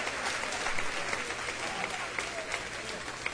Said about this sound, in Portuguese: Vamos aplaudir o Senhor direito? A Bíblia fala, espera. A Bíblia diz que quando nós aplaudimos a Deus, não é só para aplaudir, olhar para o chão, para a barriga, para as costas.